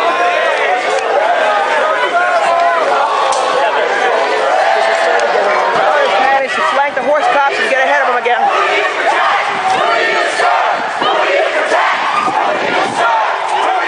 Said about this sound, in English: Crowd charges back.